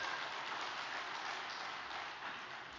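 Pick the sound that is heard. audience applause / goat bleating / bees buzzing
audience applause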